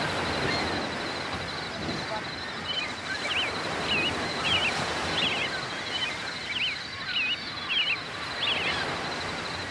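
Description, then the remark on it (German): Ocean waves wash in a steady, broad roar, while a bird's short, high chirps repeat in a loose rhythm over the surf after the first couple of seconds. “Wellen, klares Wasser.”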